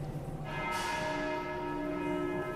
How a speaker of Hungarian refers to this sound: Igen, megszólalt a déli harangszó Betlehemben, és érkeznek a ferences atyák a rendházuk felől.